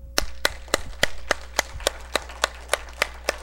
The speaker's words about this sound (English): When you clap, you are destroying the enemy. So clap with intention. And let's practice.